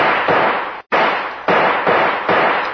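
A rapid string of about six loud gunshots fired at a door lock, each sharp bang blurring into a harsh, noisy crackle before the next, with no voices.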